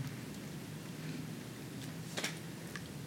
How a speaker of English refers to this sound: I have to take a moment and hear the rainfall. It's raining right now, so.